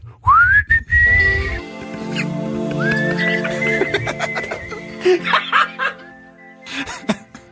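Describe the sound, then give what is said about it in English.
A person whistles a short, sliding tune with rising pitch glides and held notes, broken by a few breathy, squeaky bursts and chuckle-like sounds toward the end. “At the beginning of this, I'm going to do this cool little whistle that I've been whistling.”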